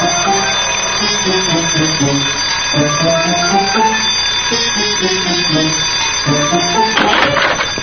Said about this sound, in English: That school bell's giving me a headache.